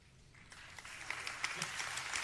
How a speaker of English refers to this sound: Tepid applause.